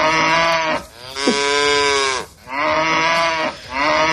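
A cow moos loudly, three long, drawn-out lowing calls with brief breaths between them, and no one speaking.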